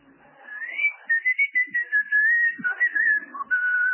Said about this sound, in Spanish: Usted se limita a chiflarla.